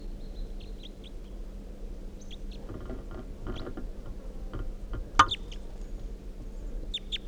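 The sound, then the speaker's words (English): Calls of a red male crossbill with a right-crossing bill, perched on top of a net above decoys: short, sharp, high-pitched chips come in irregular bursts over a steady low rumble, with one louder, clicky call standing out near the end. “So recording captured the bird. It's a red male with a right crossing bill.”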